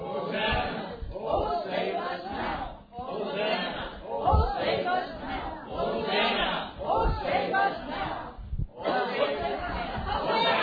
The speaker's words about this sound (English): This side means, oh, save us now. So let's shout out, oh, save us now. We'll do it one more time.